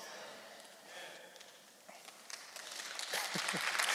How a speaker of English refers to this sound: And just for the record, at this church, when you clap, don't ever get it twisted. You're not clapping for me because I don't deserve your applause. But when you clap and when you say amen and when you get hyped, you're responding and praising